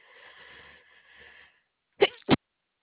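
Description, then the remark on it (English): A drawn-out breathy inhale gives way to a sharp, explosive sneeze, closely followed by a second shorter burst. It is loud, with no talking. “Excuse me, I had to sneeze.”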